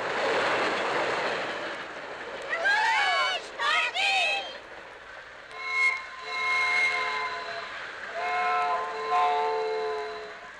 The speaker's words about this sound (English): He rode in the engine right up with the engineer and came speeding through town at 80 miles an hour. And he blew the whistle, too.